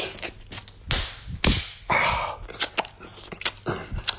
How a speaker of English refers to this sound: Slap me harder.